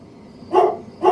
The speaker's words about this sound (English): In the early morning hours of a cold October day in 2018, Schlute was awoken by a dog barking.